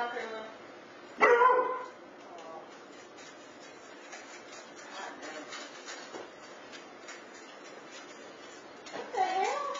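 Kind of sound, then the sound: animal, dog barking and whining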